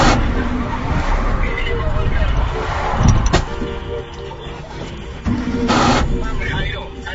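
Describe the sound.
A car engine cranks and sputters but fails to catch after the overheated car stalls while turning back to take the 26 eastbound, with a few sharp mechanical clunks over a steady rumble of traffic and muffled voices in the background.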